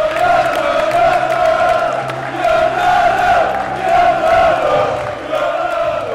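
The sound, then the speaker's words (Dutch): A large football stadium crowd of supporters at an NSC versus De Graafschap match in the Keuken Kampioen Divisie sings, shouts and cheers in unison. A dense wall of voices swells and dips in waves, loud and continuous throughout, with no single speaker standing out. “Afgelopen zondag hoorden we voor het eerst weer gejuich in een voetbalstadion.”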